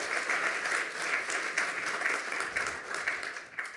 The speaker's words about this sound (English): Give him another round of applause for being the first today and having so many slides. That was really cool.